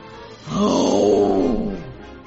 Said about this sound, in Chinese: 霸王龙吼叫着